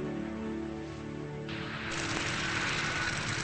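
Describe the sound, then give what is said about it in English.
An airplane lands on a runway in Duquesne, Oregon: a steady droning engine hum swells into a loud, broad rushing roar partway through, continuous, with no voices. “Plane is landing on a runway.”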